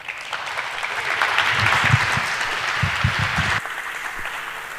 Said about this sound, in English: So please give her a warm welcome, great applause